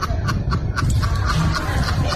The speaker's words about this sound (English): And then I've got the duck laughing. It's actually a duck.